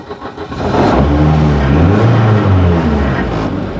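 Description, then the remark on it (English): An R2 rally car engine, started by pressing a button, cranks and catches, then revs hard in a few rising and falling bursts, loud, with no talking. “we're now sat in the R2 rally car. We've got it. All the lights are on, and all I have to do is press this little button here.”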